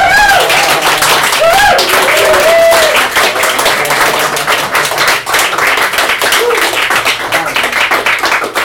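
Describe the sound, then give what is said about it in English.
Sustained audience applause for the band, a dense wash of many hands clapping at steady loudness, with a few cheers and whoops rising briefly above it early on. “Give them a big round of applause for the band.”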